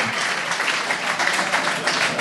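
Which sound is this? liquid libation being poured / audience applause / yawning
audience applause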